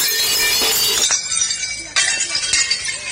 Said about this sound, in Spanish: la hostelería ha vuelto a decir: aquí estamos, rompiendo platos en la calle, como ustedes escuchan.